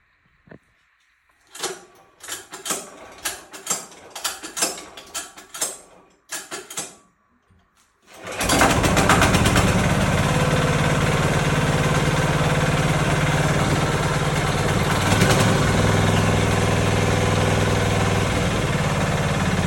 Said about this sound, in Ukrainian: Подивимося, що скаже нам дизель.